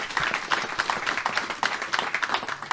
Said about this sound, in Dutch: Ja, jullie, heel goed, zeker. Ja, dat is voor het klappen.